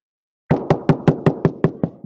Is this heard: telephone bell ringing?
no